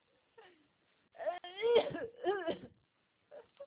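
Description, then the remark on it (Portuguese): A person coughs in a short cluster of raspy, throaty bursts, followed by a brief pause and one last small cough. “Tá com tosse, já não vai no almoço.”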